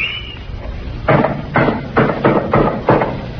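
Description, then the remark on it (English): About six heavy hammer blows land in a steady rhythm after a brief quiet start, each a loud thud with clattering ring, over a low background rumble of construction noise at the construction work of a post office. “Dad, I wish I had a hammer. I'm getting a headache.”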